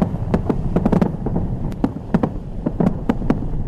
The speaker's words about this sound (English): Fireworks lit up the night sky, and the famous ball dropped in New York's Times Square amid confetti.